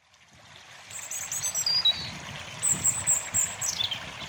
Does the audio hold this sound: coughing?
no